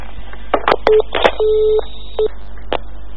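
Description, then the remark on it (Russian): A string of electronic telephone dialing tones: short beeps alternating with a few longer held tones in an uneven rhythm, moderately loud, with no voices. “Ну все, террористка, я позвонил.”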